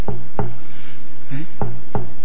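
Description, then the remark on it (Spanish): Four solid knocks on a door, fairly loud, struck as two pairs of two with a short pause between the pairs and nobody speaking. “he aquí, estoy a la puerta y llamo.”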